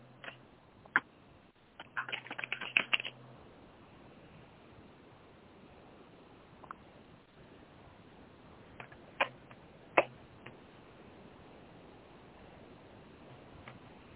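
Tarot cards being shuffled before a card is pulled for a reading: a quick flurry of papery flicks early on, then a few scattered soft snaps and taps over a quiet, steady hiss, with no one speaking.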